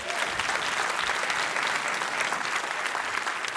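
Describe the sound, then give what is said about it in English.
Sustained applause from a live show audience for this week's winner, Andrew Howell, a dense, steady wash of many hands clapping at an even loudness for several seconds, with no voices standing out. “Yeah, round of applause for Andrew.”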